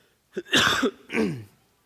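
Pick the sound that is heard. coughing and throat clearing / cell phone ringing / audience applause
coughing and throat clearing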